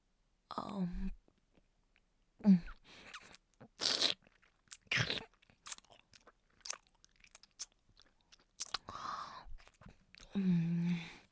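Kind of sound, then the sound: food or drink, chewing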